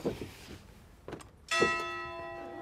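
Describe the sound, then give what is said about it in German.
A single loud clock tower bell strike rings out after faint background clatter, its bright metallic tone sustaining and slowly fading, heard at eye level with the bell, beside beehives. “Ja, die Bienen wissen hier immer, was die Stunde geschlagen hat. Ne? Die Glocke im Uhrenturm haben wir hier oben auf Augenhöhe.”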